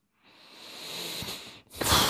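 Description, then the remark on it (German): A long, airy exhale swells steadily for over a second, then after a brief pause a louder, rougher huff of breath follows, with no talking. “Muss ich schnaufen.”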